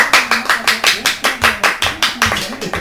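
Steady hand clapping, roughly a dozen sharp, even claps at a brisk rhythm, close and fairly loud, with no talking over them.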